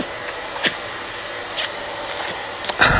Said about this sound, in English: Do you just want me to, what? Leave the vacuum cleaner on?